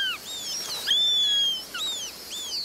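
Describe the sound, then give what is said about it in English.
A Eurasian sparrowhawk calling in a birdwatching video game set on a Mediterranean island: thin, high-pitched whistled notes that sweep up and down, several overlapping in quick succession over a soft steady hiss, with no voices. “As you traverse the animated ecosystem, listen for the calls of over 50 birds, like the Eurasian sparrowhawk.”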